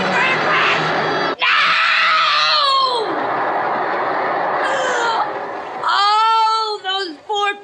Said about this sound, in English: Those poor people! All those people! And the screams! All those screaming people!